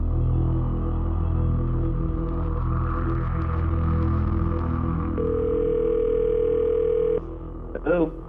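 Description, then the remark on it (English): A steady, droning telephone dial tone before a call hums continuously for several seconds, joined by a higher steady tone, then cuts out just before a brief warbling chirp at the end. “I'm gonna reach my telephone.”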